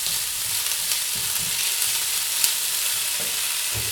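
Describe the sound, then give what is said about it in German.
Tofu with turmeric, a vegan scramble, sizzles in a pan with a steady crackling hiss, punctuated by a few soft scraping stirs and light knocks. No one speaks. “So, wunderbar, jetzt tun wir die Zucchini noch mit rein in die Pfanne und die Tomaten.”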